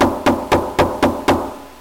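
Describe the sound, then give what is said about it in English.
Six firm, evenly spaced knocks on a door, each a sharp thud with a short ringing decay, arriving at a brisk steady rhythm with no voices. “Will we answer the knock?”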